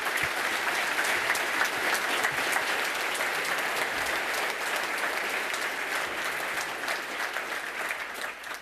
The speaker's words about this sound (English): Audience, give a warm applause